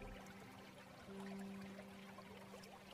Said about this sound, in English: You can hear the steady stream leading to a small waterfall nearby.